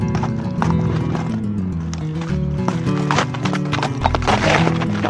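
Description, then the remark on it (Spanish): Horse hooves clip-clop at a steady walking pace, the hollow knocks fairly close and distinct over a continuous musical background, with a brief whinny-like sound blending in. “Pero el caballo se hizo el sordo y siguió caminando.”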